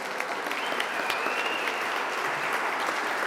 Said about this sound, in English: Once that applause died down